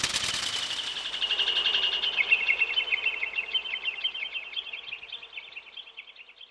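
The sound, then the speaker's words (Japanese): A dense flurry of rapid, high chirps and trills from a flock of Japanese bush warblers, loud and busy at first, then gradually thinning and fading as they fly off and scatter. No talking. “急にあたりが明るくなって、虹色の光の中をウグイスが飛び散るように消えていきました。”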